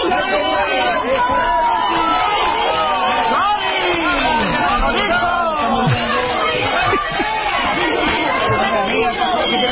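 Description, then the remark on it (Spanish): A large outdoor crowd at the courthouse in Gavà shouts and clamors at Messi's arrival to testify on tax evasion, many voices overlapping into a loud, continuous roar of yells and chatter that stays steady throughout. “Bueno, esta es la llegada de Messi, hay gritos de todo.”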